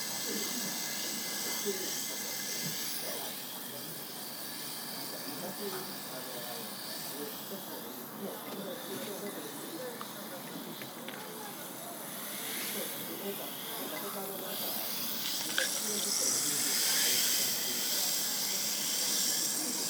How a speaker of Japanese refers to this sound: あれ？だんだんシュワシュワが弱まってきたような。